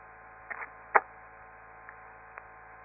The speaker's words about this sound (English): I'm going to open the squelch on the receiver, which will put a loud hiss on the telephone line, and start calling the station